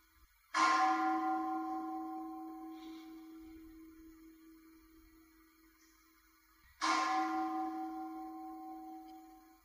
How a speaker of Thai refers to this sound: เอาฟังเสียงระฆังสิฟังแล้วดูว่าใจเราไหวบ้างไหม